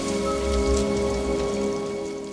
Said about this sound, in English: I wish the rain would stop just once. It can't rain all the time.